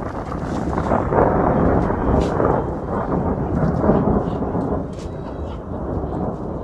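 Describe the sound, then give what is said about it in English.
A heavy thunderstorm sweeping in from the Persian Gulf rumbles continuously, deep rolling thunder layered with steady rain, loud throughout with no voices. “As a thunderstorm sweeps in from the Persian Gulf, the men show another room where more than 20 people will have to take shelter.”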